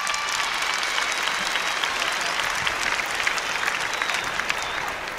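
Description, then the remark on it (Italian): A sustained round of audience applause, dense and steady clapping from many hands at a fairly loud, even level for several seconds, with no speech over it. “Right on, give Tommy another great round of applause.”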